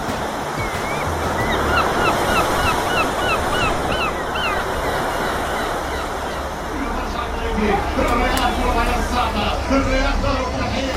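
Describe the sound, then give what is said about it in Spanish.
Steady surf washes against the sea shore at the end of a densely populated strip of land about 40 km long and 14 km wide, in a continuous, rolling roar, with honking bird calls rising over the waves and faint, indistinct voices in the background. “con unos 2 millones de habitantes en una franja de apenas 40 kilómetros de largo por 14 de ancho, 14 kilómetros que recorremos hasta llegar al mar.”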